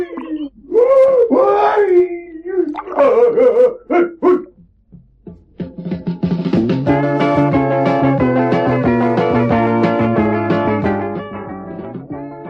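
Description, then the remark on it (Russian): A voice imitates Brer Wolf howling in a folk tale: loud, wavering wails rise and fall for several seconds, then break off into a steady, droning sustained tone that lingers to the end. “Как завоет, братец волк, как подскочит.”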